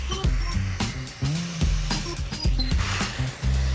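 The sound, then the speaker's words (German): A vacuum cleaner runs, its loud motor roar pulsing and changing pitch in quick bursts as the nozzle moves over the inside of an opened amplifier, sucking out dust. There is no talking. “Du hast ihn gerade ausgesaugt und mit dem Pinsel noch ein bisschen nachgereinigt.”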